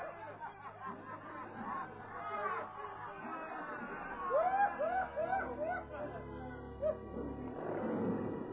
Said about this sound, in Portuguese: Carrascos libertam os leões famintos para a espantosa cena de impiedade, pavor e sangue.